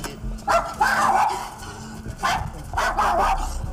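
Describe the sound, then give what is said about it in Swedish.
An angry dog on a leash jumps out through a door, barking and snarling in several harsh bursts as it snaps at people's trouser legs, with short pauses between them over a low background hum. “En ilsken hund hoppar ut och börjar nafsa oss i byxbenen.”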